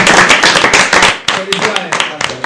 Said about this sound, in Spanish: Bueno, un aplauso para él.